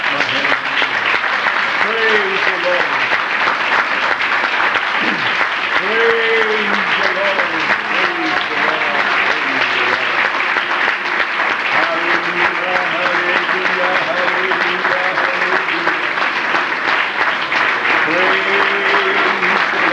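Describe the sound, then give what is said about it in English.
Many hands clap steadily and loudly for the full stretch, a dense, continuous patter with no pauses, while voices call out and sing beneath it. “Oh, can I clap my... You can join me if you want.”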